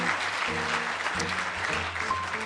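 Steady, dense applause from a crowd, a thick wash of clapping that stays loud and even for a couple of seconds, with a faint low musical hum underneath.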